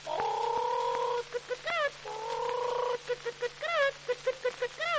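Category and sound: vocal imitation, imitated hen clucking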